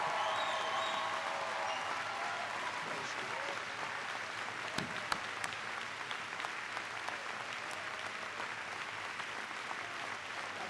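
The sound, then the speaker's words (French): Sustained applause from an audience that has stood up to clap, a dense steady patter of many hands clapping for about ten seconds, with a faint murmur of crowd voices mixed in. “Déjà, c'était levé pour applaudir.”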